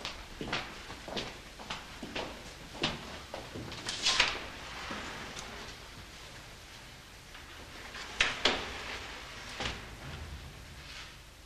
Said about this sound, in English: Barrymore leads her away and through a glass-paned wooden door into their quarters.